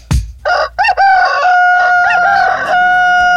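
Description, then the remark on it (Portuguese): A rooster crows once, loud, its call starting in choppy bursts and then stretching into a long, strained note. A brief thump comes just before, and no one speaks. “Galo cantou às 4 da manhã.”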